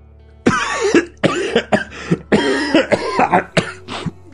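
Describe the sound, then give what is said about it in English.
A person with a chest infection coughs repeatedly in a series of harsh, chesty bursts, some rough and rattling with a bit of throat clearing, fairly loud with short gaps between. “I can't seem to get rid of this chest infection.”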